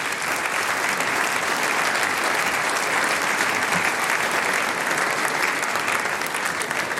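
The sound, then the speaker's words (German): Steady, loud applause from an audience welcoming Styrian state parliament member Stefan Resch, dense clapping that holds evenly for several seconds without a break or any voices rising above it. “Das ist ein Applaus.”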